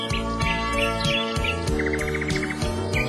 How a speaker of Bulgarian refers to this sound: И се чуват птички.